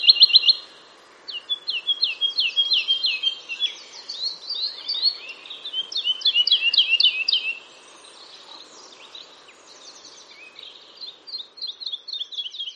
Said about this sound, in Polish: Jego śpiew to takie bardzo przyjemne dla ucha fletowe gwizdy i zaraz dla Państwa wystąpi na antenie Radio Doksa skowronek borowy.